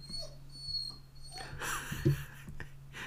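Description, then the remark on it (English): An excited dog named Perry gives a few sharp, high yips and barks in the middle of the stretch at children coming home from school, over a steady low hum with no one talking. “Children are coming home from school, and my dog Perry is letting everyone know that he sees them and he's excited about it.”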